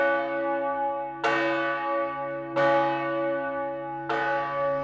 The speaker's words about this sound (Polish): Drugi dzwon w wieży to ten, który słychać w głównym mieście najczęściej. Ave Maria z 1971 roku, ważąca 2,5 tony, bije codziennie o 7, 12 i 18.